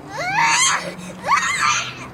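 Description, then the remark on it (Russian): A child cries and screams under the windows in two long, high-pitched wailing bursts, loud, with a short break between them and faint background noise underneath. “А вы считаете это нормально, да, что они тут под окнами кричат уже минут 10?”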